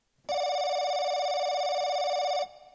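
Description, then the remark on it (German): A telephone rings before an invented phone call, with a single loud, steady electronic tone that holds unbroken for about two seconds and then stops abruptly. No one speaks. “Damit ihr euch darunter etwas vorstellen könnt, haben wir für euch ein Telefongespräch erfunden.”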